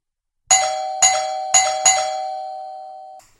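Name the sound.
doorbell ringing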